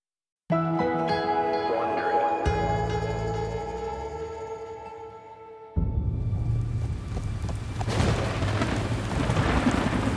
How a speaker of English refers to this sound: Lightning lit the early evening sky. Rain poured down onto the flagstones of the old Roman road. Thunder cracked and rolled, drowning out the pounding of the horse's hooves on the pavement.